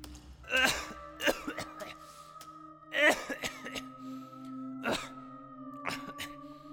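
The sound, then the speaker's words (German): A series of harsh coughs and throat-clearing bursts, about six of them, spaced irregularly over a steady low hum, moderately loud with no talking. “Wie lange hast du denn schon diesen schrecklichen Husten?”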